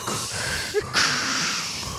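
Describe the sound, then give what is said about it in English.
A voice imitates the heavy mechanical respirator breathing that a popcorn bucket makes when switched on: a long, raspy, hissing breath lasting about two seconds, with a brief squeaky catch midway and no speech. “My popcorn bucket breathes in the way Darth Vader does. Like, you turn it on, and it goes”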